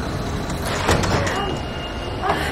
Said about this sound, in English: Firefighters run to the entrance. Okay, we'll have it open in a minute. The firefighters open the doors.